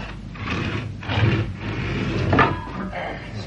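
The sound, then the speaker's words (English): A garage door is pulled shut with a rumbling mechanical clatter that swells and rattles over a few seconds, ending in a louder thud. “Give us a hand to shut the garage door.”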